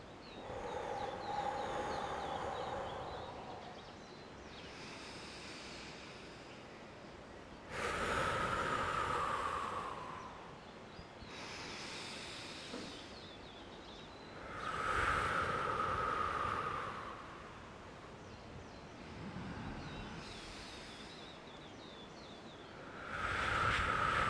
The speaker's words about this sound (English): Whatever pace is comfortable for you, but really deeply inhaling, deeply exhaling, no pause between the breaths. It's a fluid breath, cosmic breath.